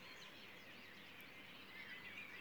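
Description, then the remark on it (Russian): A dense dawn chorus of many birds singing at once at 4:34 in the early morning of the summer solstice, 21 June, greeting the sunrise, their overlapping chirps and trills forming a steady, fairly faint wash of song, with no voices. “Слышите замечательный хор? Это птицы приветствуют появление светила.”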